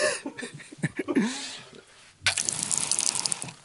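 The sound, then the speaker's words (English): Water is poured and splashes against an untreated brick wall, starting with a few scattered splatters before becoming a steady, hissing splash for the last second and a half; the brick absorbs the water. “Yeah, it's basically the water's just... The brick has absorbed all the water. That's the untreated brick.”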